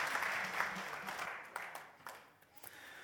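Audience applause welcoming a guest speaker who is about to speak from the Bible: a dense wash of many hands clapping, fairly loud at first, then gradually thinning out and tapering off with a few scattered claps near the end.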